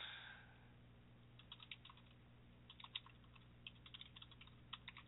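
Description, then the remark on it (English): Rapid, uneven bursts of angry typing clatter on a computer keyboard, sharp clicks clustering in quick flurries with short pauses, over a low steady hum. “And more angry typing.”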